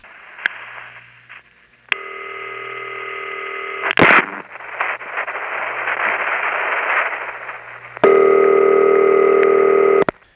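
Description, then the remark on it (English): A telephone intercept trunk's ringtone plays steadily underneath the real ring over faint hiss, breaks into a burst of static and noise as the real ring trips on its next cycle, then the intercept ringtone returns noticeably louder and clearer before cutting off. “And eventually, when the real ring gets around to its next cycle, it trips and the intercept trunk's ringtone becomes louder, like this.”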